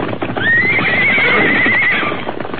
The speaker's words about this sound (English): Yippee! Look at them travel! You'll never catch them horses again, Tobias.